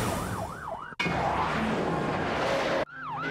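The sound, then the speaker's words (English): Sirens of two police cars chasing a speeder in a high-speed pursuit on a quiet night in the countryside at Georgetown, Kentucky, wail loudly in rising and falling sweeps, broken by a burst of rushing vehicle noise before the oscillating cry returns. “The shriek of sirens on the quiet night warns the countryside a high-speed pursuit is in progress.”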